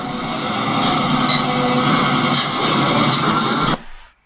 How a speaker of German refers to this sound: Das war es von der Internationalen Eisenbahntechnischen Ausstellung Sedin. Dampf. Elektro. Und Diesellokomotiven.